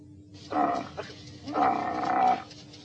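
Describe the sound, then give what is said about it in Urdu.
A camel lets out two loud, guttural groaning bellows, a short one followed by a longer, drawn-out one after a brief pause. “اونٹ؟”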